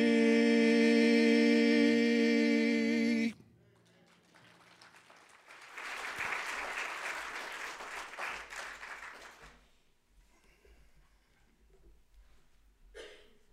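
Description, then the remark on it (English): A sustained sung note ends abruptly, then after a short pause an audience breaks into steady applause for the singers that swells for a few seconds and fades into scattered claps. “Y'all give them another round of applause if you don't mind.”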